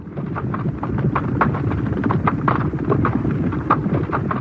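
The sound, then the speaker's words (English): A dense, rumbling gallop of many racing horses' hooves pounding together in a continuous thundering roll during a horse race, loud, with rapid overlapping beats and no voices. “Some horse racing events sound strange to me because they have this constant thundering sound, and I can't tell if it's real or not.”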